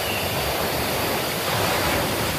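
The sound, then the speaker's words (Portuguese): A dense, continuous roar of rough surf fills the whole stretch, loud, with a slight surge partway through as another wave breaks. No voices. “É um mar um bocado intenso.”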